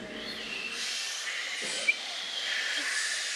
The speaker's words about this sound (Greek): Άκου τον άνεμο.